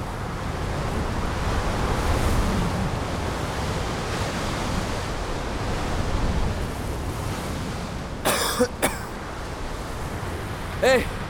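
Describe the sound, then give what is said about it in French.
Steady, dense radio static caused by a storm scrambling the frequency hisses throughout, broken near the end by a few sharp crackling bursts of interference and a brief warbling tone. No voices are heard. “cette petite interférence a été, je vous le jure, la chose la plus belle que j'ai entendue depuis longtemps.”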